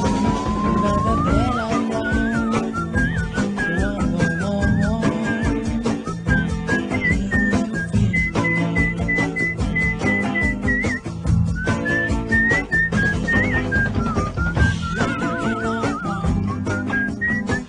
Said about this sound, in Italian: andate a fischiare, non ce la faccio più a fischiare.